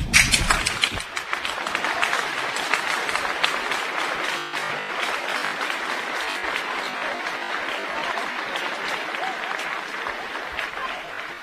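An audience at a class of 2022 school commencement claps steadily for about eleven seconds, a dense, bright patter of many hands that stays fairly even in loudness, with faint crowd murmur mixed in.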